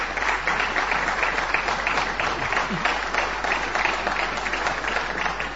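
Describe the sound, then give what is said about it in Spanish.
Steady audience applause fills the whole stretch, a dense, even wash of many hands clapping at constant loudness with no voices over it, for someone celebrating a birthday who enters the stage. “Bueno, después lo podremos aplaudir.”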